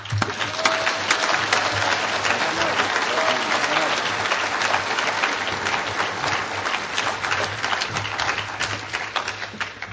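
Steady, dense audience applause with many hands clapping at once, a loud crackling wash that holds evenly for the whole stretch with a low hum beneath it.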